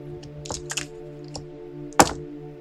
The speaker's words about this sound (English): attempting the first dice roll of the show. This will be an athletics roll.